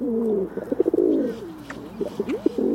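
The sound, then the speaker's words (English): A pigeon coos close by in low, throaty, rolling phrases: a bubbling run of coos, a brief lull, then another burst of warbling calls, with no voices. “Pigeons are no longer exclusive to nobility.”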